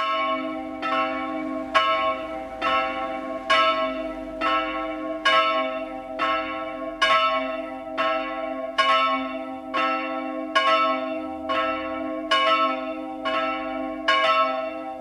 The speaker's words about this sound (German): Es ist 12 Uhr. Das Mittagsläuten kommt heute von der evangelisch-lutherischen St. Paulus-Kirche in München-Perlach.